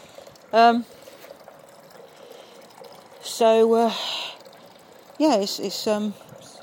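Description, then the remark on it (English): A garden water feature trickles steadily in the background, a soft continuous splashing. Three short bursts of voice-like, tonal sounds rise over it, without clear words. “We're promising to record the water feature for some time.”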